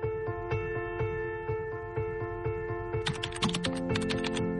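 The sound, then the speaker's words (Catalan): Rapid typing on a computer keyboard in an office, entering four key terms into a search engine, a steady stream of clicking keystrokes over a sustained musical drone, growing busier and brighter toward the end with a few sharp taps. “Aquell matí al despatx, en un instant, no sé si de debilitat o de coratge, vaig teclejar 4 conceptes claus al buscador més conegut del món.”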